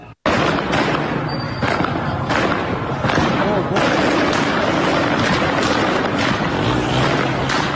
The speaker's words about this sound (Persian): ویدیوهای پرشماری در شبکه‌های اجتماعی منتشر شده که نشان می‌دهد نیروهای امنیتی به طور مستقیم به معترضان شلیک می‌کنند. اینجا هم شیراز پر از دود و خون و آتش، جنگ، دانشگاه را آتیش زدن.